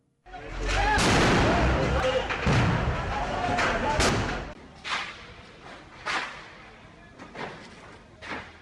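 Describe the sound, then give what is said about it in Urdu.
Stored explosive material and ammunition explode during a night fire in the evidence storeroom of the City Courts complex in central Karachi, Pakistan: a sustained roar of rumbling blasts for several seconds, then four separate sharp bangs at irregular intervals. “وسطی شہر میں موجود کراچی کے عدالتوں کے مرکز سٹی کورٹس کمپلیکس کے مالخانے سے رات بھر دھماکوں کی یہ آوازیں آتی رہیں.”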